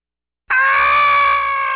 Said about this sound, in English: That horrifying scream is not, I said not, from the resident ghost of the hotel. It's the Steak and Scampi special at Lyons.